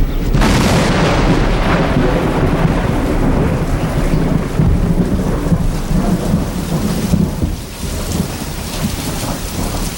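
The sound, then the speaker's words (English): A loud thunderstorm: heavy rain and gusting wind roar steadily throughout, with deep thunder rumbling underneath and swelling in the first seconds. No voices are heard. “It speaks in the whistling wind that bends trees under a stormy sky.”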